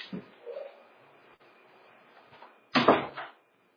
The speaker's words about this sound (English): I just shut the door.